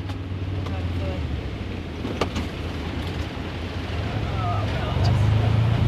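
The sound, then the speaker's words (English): A side-by-side utility vehicle's engine drones steadily as it drives uphill to check on livestock, its low rumble rising and straining toward the end, with heavy wind buffeting throughout. “I jump into a side-by-side with Lucy Moffat.”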